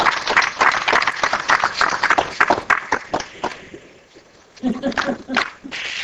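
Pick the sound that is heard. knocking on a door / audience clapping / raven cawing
audience clapping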